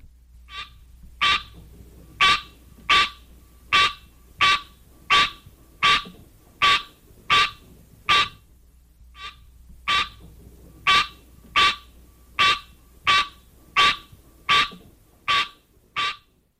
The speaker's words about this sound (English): One parent, the green tree frog, Hyla Scenaria, has this call.